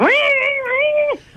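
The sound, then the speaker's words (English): A voice imitates the drawn-out yowl of a cat inside a washing machine: one loud, sustained, wavering meow lasting about a second, rising at the start and dropping off sharply at the end, with no other sounds around it. “Next thing, my mum could just hear this.”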